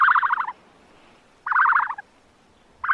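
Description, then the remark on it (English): An ostrich calls in loud, warbling bursts, each about half a second long, repeating at a steady interval of roughly one and a half seconds, with quiet pauses and no talking. “That, my friends, was an ostrich.”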